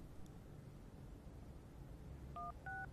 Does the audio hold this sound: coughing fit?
no